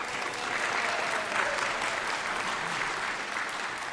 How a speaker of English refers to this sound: We can never applaud them too much.